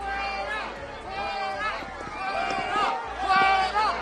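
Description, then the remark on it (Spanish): A crowd jeers and boos during Spanish Prime Minister Pedro Sánchez's hospital visit, many overlapping voices rising and falling in pitch in a loud, continuous wash of shouting that swells toward the end. “La visita de Sánchez se tira de sorna, de ironía, el alcalde de Madrid, que se colaba en esa foto del hospital sin que la factoría Moncloa lo tuviese previsto, como seguramente no tenían previsto, pues que se colasen algunos abucheos”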